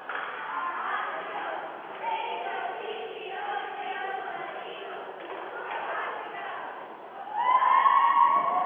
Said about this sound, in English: And we'll take a few seconds here. You can hear the Eagle cheerleaders as they give a cheer for their team. Here you go.